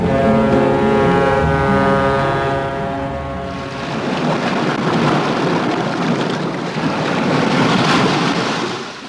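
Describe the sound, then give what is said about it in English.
Waves break on a beach on the coast of St. Lucia in the Caribbean in a steady, rushing roar with swelling surges, following a few seconds of a low, sustained horn-like drone. No one speaks. “Waves breaking on a beach on the coast of St. Lucia in the Caribbean.”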